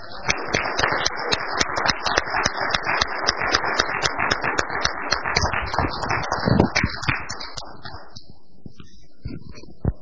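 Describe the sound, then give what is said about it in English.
An audience breaks into applause to bring on a speaker, a dense wash of many hands clapping at a steady, lively level for several seconds before thinning out and fading near the end. “So bring him on with a good round of applause.”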